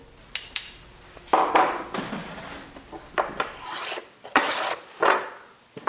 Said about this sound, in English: Can you hear that? Doesn't that sound beautiful? As Dignan scrapes a handmade plane down a stick of wood he's carving into a violin bow, fiery orange shavings float through the air and coat his workshop near Boston with a fine layer of dust.